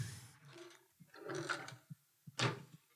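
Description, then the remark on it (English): Bathroom drawers in an ensuite bathroom slide open with rough scraping, followed by several short clunks and knocks as they stop, fairly loud, with no one talking. “So I've got a lot of space in this bathroom, and I suppose I could clear out a drawer or two. Let me see.”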